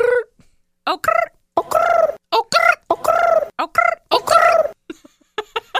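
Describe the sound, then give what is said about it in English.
Someone imitates a pigeon with a quick run of warbling, throaty coos, about a dozen choppy bursts in an uneven rhythm, loud and mid-pitched, with no other talking. “It sounds like a cold pigeon in New York City.”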